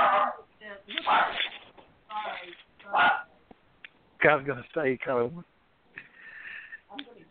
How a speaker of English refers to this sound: Just the very name, mention of his name makes the dog bark. The dog has taste. The dog has very good taste.